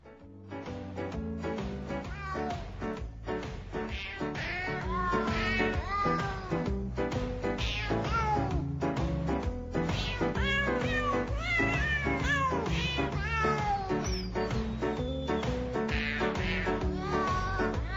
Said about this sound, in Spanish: os dejo con …, interpretado por …